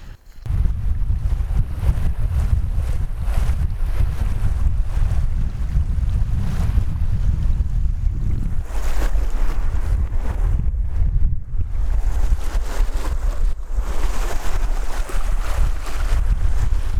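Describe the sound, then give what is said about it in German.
Steady rushing of fast-moving river water with a strong current in a floodplain, loud and continuous for the whole stretch, with a heavy low wind rumble buffeting the microphone throughout and no voices. “Ja, das Wasser ist ganz schön, hat eine ganz schön starke Strömung. Ruhiges Wasser sieht anders aus. Vielleicht könnt ihr das hier auch mal hören.”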